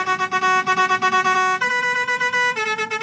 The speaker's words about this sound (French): Et encore celle-là, Marc-Antoine vient de recevoir le tout nouveau klaxon de son tracteur. Comment ça va envoyer, Tata ? 6 trompettes, 30 sons différents. Ça va bourrer dans les plaines, je te le dis, moi.